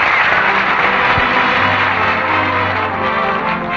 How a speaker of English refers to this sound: You know, there's a lot more applause for you, too, that you can't hear.